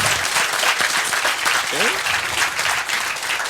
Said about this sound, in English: Yeah, just quickly before we get to the questions, maybe a big round of applause